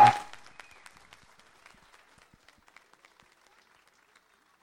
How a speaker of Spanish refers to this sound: un aplauso para todos ellos, porque sin ellos tampoco hubiera sido posible esto. Gracias.